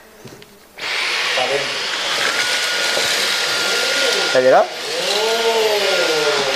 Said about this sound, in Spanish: Pero no pasa nada No pasa nada, señorita, porque usted tiene aquí esta aspiradora mágica, esa aspiradora de con alta tecnología. Así, de otra vez.